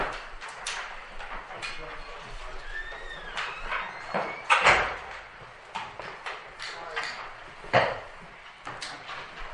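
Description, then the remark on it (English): A door is closed during a short break in a meeting, shutting with a solid thud partway through, followed later by a second, softer knock, all over a busy hum with faint voices murmuring in the background. “So, in the hall, close the door behind you.”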